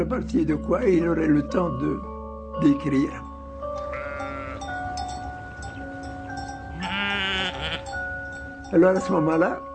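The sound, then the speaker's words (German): Sheep on a farm bleat repeatedly, several wavering, quavering calls overlapping one another, loud, with steady low background hum and brief pauses between the bursts. “Deswegen hat er uns vorgeschlagen, dass er unsere Schafe hütet, um schreiben zu können.”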